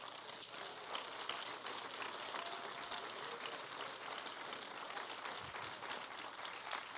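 An audience clapping their hands in praise to God, a dense, steady patter of many claps at a fairly loud, constant level throughout, with no talking.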